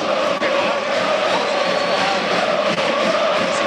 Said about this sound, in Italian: Il tifo che sentite è di marca giallo-blu.